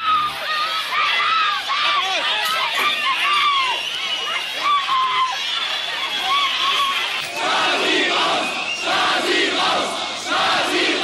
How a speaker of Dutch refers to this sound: Gillende mensen, woede natuurlijk. Dus er werd gevochten. Er gingen jongens in pure woede met die kerels vechten.